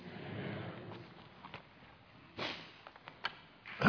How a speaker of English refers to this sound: If I can get through my coughing spell, I want to open this altar.